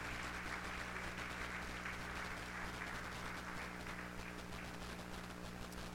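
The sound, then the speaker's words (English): A crowd claps steadily for God one morning for several seconds, a dense, continuous patter of many hands at an even loudness, with no voices standing out above it. “Somebody give Him a good hand clap this morning in this place.”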